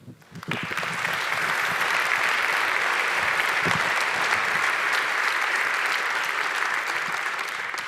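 An audience breaks into applause to welcome a speaker before his talk, the clapping swelling within the first half second into a dense, steady wash of many hands that holds at a loud, even level to the end.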